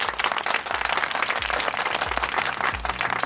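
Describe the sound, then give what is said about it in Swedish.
A crowd applauds steadily, dense overlapping claps filling the space at a fairly loud, constant level with no voices standing out. “Tar upp glaset och skålar för huvudpersonen och så tar du emot applåderna.”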